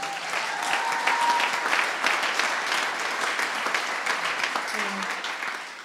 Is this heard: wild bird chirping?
no